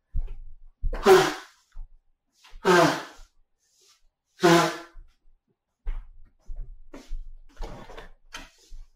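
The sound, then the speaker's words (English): Three loud, forceful nose blows in a row from someone with a tree pollen allergy, each a honking, breathy burst lasting about a second, followed by softer sniffles and rustling. No one speaks. “So I am going to just take a little pause and blow my nose here.”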